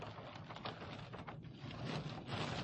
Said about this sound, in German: Ist das Regen, …? Ja. Das ist Regen, ja. Das ist echt heftig gerade.